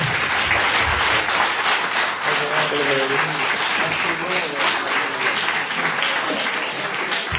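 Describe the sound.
An audience applauds steadily for several seconds, a dense, even wash of many hands clapping, with a few voices faintly audible underneath.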